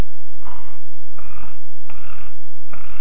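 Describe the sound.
A voice imitates snoring with rough, guttural throat rattles made in the throat rather than the nose, repeated four times in a steady rhythm, fairly loud with no talking.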